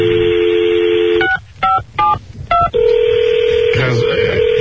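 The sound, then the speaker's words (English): A steady phone dial tone gives way to four quick, evenly spaced telephone keypad tones as a call is dialed out on a different line of the phone, followed by another sustained line tone with a brief voice near the end. “Maybe it's a different line on that phone. Yeah, call out.”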